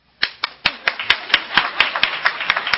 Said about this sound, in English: I didn't do a good job. I was just playing. You didn't have to clap.